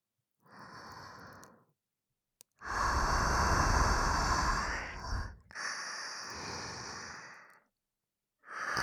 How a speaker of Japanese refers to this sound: ギリギリまで密着して、私たちのあったかい吐息、いっぱいかけてあげるからね。